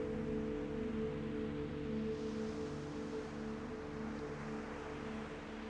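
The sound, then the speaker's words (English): Soft, continuous ocean surf washes steadily onto the shore, blended with a sustained low, humming musical drone. No one speaks; the wash stays even and moderately quiet throughout. “The waves wash in, the waves wash out, and the waves begin to keep rhythm with your own breath.”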